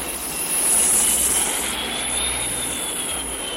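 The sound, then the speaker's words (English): A squadron of jet aircraft roars past overhead to investigate an unidentified flying object, a dense, steady rushing noise with a high engine whine that swells slightly, then holds. No voices. “Jet squadrons investigate.”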